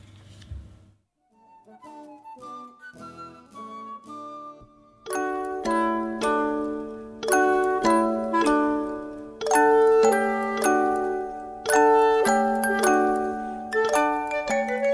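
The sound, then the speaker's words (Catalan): An instrumental rendition of the English folk tune Three Blind Mice, used as background music, played with bright, bell-like notes; it opens with a quiet, sparse melody, then grows louder and fuller with steady struck chords. No voices. “La música de fons que sentireu és una cançó popular anglesa que es diu Els Tres Ratolins.”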